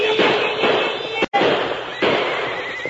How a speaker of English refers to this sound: Ride at them. Shoot your gun into the air. They'll panic easy.